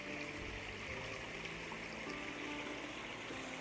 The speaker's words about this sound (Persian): یه خونه‌ای که این رو هست، این چقدر حال میکنه. صبح صدای یه رودخونه پا میشه، یه رودخونه تمیز و قشنگ و این پل خوشگل زیبا.